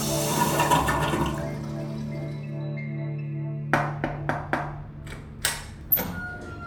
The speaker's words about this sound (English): Flush the toilet! He'll just sink to the bottom of the sewer or something!